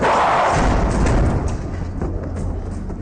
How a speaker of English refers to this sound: They shut the door on a charging zombie.